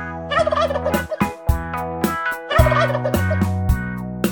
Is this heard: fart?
no